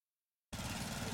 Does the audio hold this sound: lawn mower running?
yes